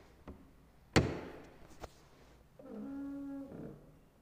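A heavy, finely crafted wooden church door thuds open with a sharp knock, followed by a second bang and a drawn-out creaking groan as it swings, with no talking.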